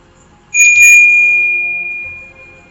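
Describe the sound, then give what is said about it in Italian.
A doorbell at a door sounds once, a bright, clear ding that starts suddenly and rings out slowly for about two seconds. It is loud, with no voices. “Ma chi ha suonato il campanello?”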